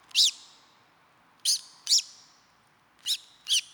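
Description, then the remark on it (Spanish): Five short, bright bird calls, short communication calls rather than song, ring out in an uneven series, each a quick high-pitched chirp with a ringing tone, separated by brief pauses over a quiet background with no talking. “Por otra parte, el reclamo son piezas de voz más pequeñas que lo que intentan es comunicarse entre sí.”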